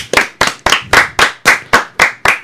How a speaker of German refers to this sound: Ein kleiner Applaus